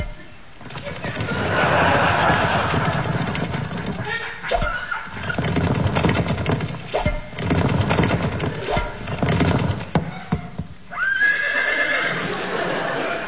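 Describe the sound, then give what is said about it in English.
A horse at the Badminton Horse Trials whinnies loudly and repeatedly, its drawn-out neighs rising and falling, while hooves clop at intervals against a dense, noisy background. “It's the badminton horse tiles.”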